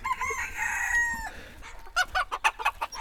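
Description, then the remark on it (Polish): A pet hen named Celina, raised from an egg, lets out a drawn-out, strained call, then breaks into a quick run of short, sharp clucks, fairly loud, with no one speaking. “To jest jego kura, którą właśnie z jajka wyhodował i na woła Celina.”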